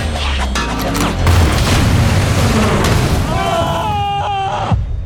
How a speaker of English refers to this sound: I'm going to put this propane tank at them. You shoot it, you'll blow up their car.